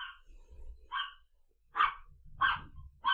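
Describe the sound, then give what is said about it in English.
A dog named Chica barks repeatedly at someone using the pavement outside the flat, in short, sharp bursts, about five barks spaced unevenly over a few seconds, fairly loud with no talking. “Somebody dared use the pavement outside the flat, so we all got treated to the song of her people.”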